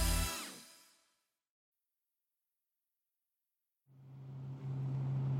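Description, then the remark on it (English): A loud burst of vehicle noise fades into near silence, then a bus engine picks up again with a steady low drone and rising hiss, from a bus that goes around Roosevelt Island. “This is pretty convenient to have this bus that goes around the island.”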